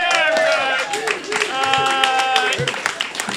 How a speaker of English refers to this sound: Please give another round of applause for our improvisers up here. They are all part of awesome improv shows here at Endgames Improv.